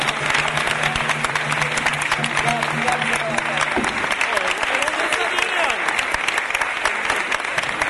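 An audience breaks into loud, sustained applause, dense and steady clapping for about eight seconds, with a low humming tone underneath during the first half.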